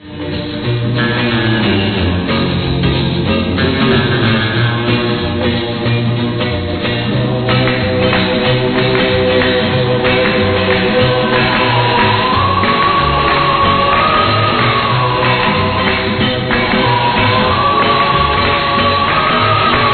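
A group claps hands in a steady rhythm on a record, the sharp claps layered over a loud, full orchestral pop arrangement that plays continuously throughout.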